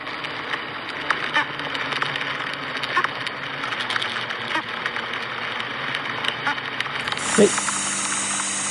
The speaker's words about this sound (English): So then he says, "These are bees that are bumping into each other." And he included the MP3 with the YouTube video so I could see it. It's called Bees Whoop. Let's listen to it again.